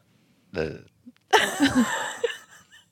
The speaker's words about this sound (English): I think I'm going to cut out a couple of those burps because I feel like there are people who are going to be like so turned off